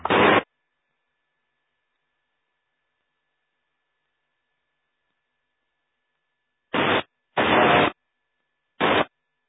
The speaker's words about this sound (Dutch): Wie nog meer? Er staat iemand op de grens van de ruis, volgens mij, van de squels.